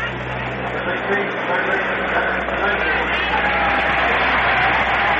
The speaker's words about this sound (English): Dennis Menke coming up, getting a round of applause.